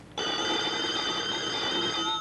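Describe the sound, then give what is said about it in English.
A telephone bell rings during a WNOK radio broadcast in Columbia, once in a long, steady burst of about two seconds, bright and metallic with a buzzy shimmer, starting abruptly and playing alone without any voices. “And, well, every now and then at this time, I get a call. So, hello.”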